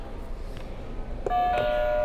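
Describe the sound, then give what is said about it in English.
After a stretch of quiet background hiss, a game buzzer sounds: a sudden, loud electronic tone with bright ringing overtones that holds steady to the end. No one speaks. “All right, go ahead and hit another buzzer for me.”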